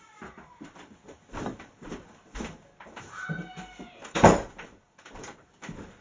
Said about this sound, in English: Let me just close the door.